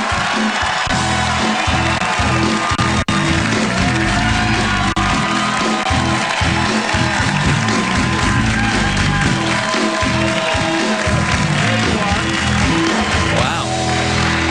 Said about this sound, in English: I knew I was going to get that kind of applause. I might have left earlier.